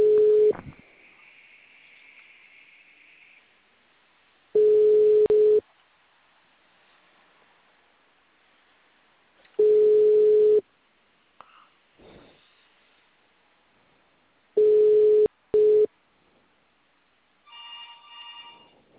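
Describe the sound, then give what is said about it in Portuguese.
A telephone line tone: a steady, low electronic beep lasting about a second, repeating four times with roughly four-second gaps of near silence, then a brief burst of higher electronic tones at the end. “Nossa, que telefone insuportável, velho.”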